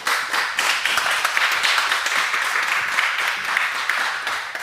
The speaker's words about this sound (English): Let's give a round of applause for Benjamin.